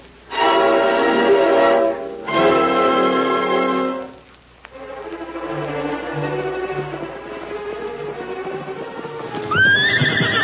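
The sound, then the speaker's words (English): A horse whinnies loudly twice, then a steady run of hoofbeats carries on at a quick pace before another high whinny breaks out at the end, as Tonto rides back fast from town. “That's Tonto coming back from town. He's traveling fast.”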